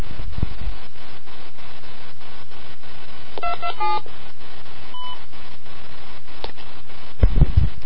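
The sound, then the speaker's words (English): A quick sequence of telephone keypad tones as a phone number is dialed for a call, several short dual-pitched beeps in a rapid burst, heard over a steady low hum and faint line hiss, followed by a couple of soft clicks. “Alright, well, that was a fun phone call, wasn't it, children?”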